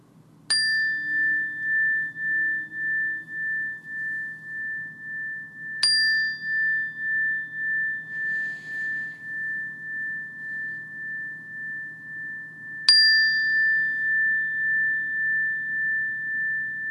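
A meditation bell is struck three times, spaced several seconds apart. Each strike rings out clear, then hangs in a long, gently wavering tone that slowly fades over a faint low hum.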